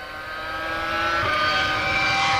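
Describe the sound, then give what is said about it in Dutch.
A Formula 1 engine screams past, its high, harmonic whine swelling louder over a couple of seconds, then the pitch drops slightly as it goes by. No one speaks. “Ik denk dat dit Schumacher was.”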